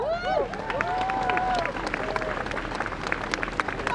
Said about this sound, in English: Round of applause. Thank you for that.